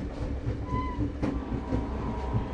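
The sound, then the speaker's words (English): A moving campaign train near Jefferson City, Missouri, rumbles steadily along the rails, its wheels clacking in a loose rhythm over the joints, continuous with no one talking. “John Kerry and John Edwards spoke yesterday on a campaign train near Jefferson City, Missouri.”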